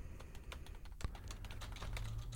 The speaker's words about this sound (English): Is she typing very loud?